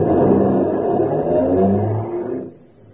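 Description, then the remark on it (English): A car engine revs loudly with a deep, rumbling growl, then pulls away and fades quickly as the vehicle drives off from an airport parking lot. “It's still there when he joins me at the airport parking lot and we get in a car to drive to Los Angeles.”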